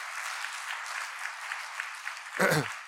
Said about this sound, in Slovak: Dáme potlesk Pánovi za to. Halelúja. Halelúja, Pane.